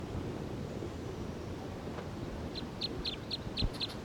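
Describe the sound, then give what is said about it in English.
A wild bird perched on a hole next to marker 301 gives a quick run of six or seven sharp, high-pitched chirps in the final second and a half, heard over a steady rushing wash of wind or surf noise. “The bird's getting loud, very loud.”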